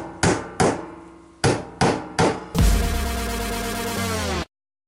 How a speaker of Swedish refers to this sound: Låter det sådär? Så låter det inte, vad jag vet, någon som hamrar med hammare.